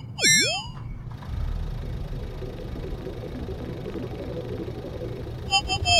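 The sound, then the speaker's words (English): The engine of the car Ruby cranks with a brief whining start, prepared for a getaway, then settles into a steady, low, rumbling idle, with a faint higher chime near the end. “Prepare your engine for escape, Ruby.”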